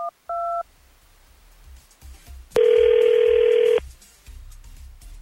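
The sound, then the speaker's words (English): A couple of quick keypad beeps, then one loud, buzzy ring tone lasting about a second as an outgoing phone call from the 102.9 The Wolf morning show rings. A low rumble sits underneath, and no one speaks. “Well, let's give her a call.”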